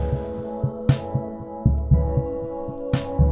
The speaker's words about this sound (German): Und ein Keyboard, das die drei Akkorde hier spielt, auch mit einer Art Puls, aber langsamer als der Drumbeat und in eine Verzerrung geschickt.